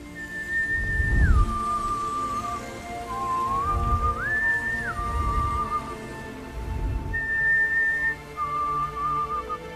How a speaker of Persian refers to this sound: کارم داشتی سوت بزن.